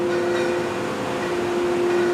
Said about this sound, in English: As we drive up, a Doyon drill rig emerges from the fog, sitting crouched on the pad like a rocket, not far from some caribou. Ever wonder what a drill rig sounds like? Well, you are in luck. It's at work on an injection well.